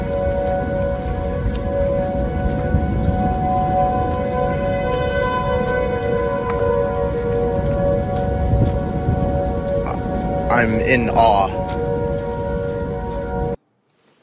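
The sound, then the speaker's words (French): Four tornado sirens, heard from a street at the crossing of four neighbourhoods, wail together in a steady, dissonant chord. They are held loud and unbroken over a rushing, rain-like hiss, with a brief rising sweep near the end and a short spoken remark. “Il était donc à portée d'oreille de quatre sirènes anti-tornades, et voilà ce que ça donne.”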